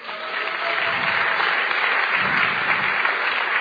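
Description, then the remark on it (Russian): A crowd breaks into steady applause, dense clapping that rises quickly and holds at an even, fairly loud level for several seconds without any voices over it. “Я бы здесь подарил аплодисменты.”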